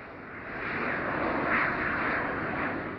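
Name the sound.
airplane engine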